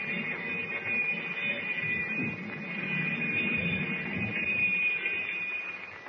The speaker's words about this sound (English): But even as the alarm bell echoes through the submarine,